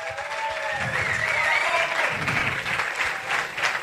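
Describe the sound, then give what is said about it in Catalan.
An audience at the Fires de Molins de Rei breaks into steady, dense applause, many hands clapping at once in a continuous wash of sound that holds at an even, fairly loud level for the whole few seconds. “Un aplaudiment, sí senyor.”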